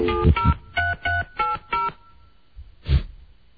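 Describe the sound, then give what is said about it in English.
A quick run of about half a dozen touch-tone beeps as a phone number is keyed in, each short and evenly spaced, followed by a brief muffled thump. “Oops, hold on. Wrong number.”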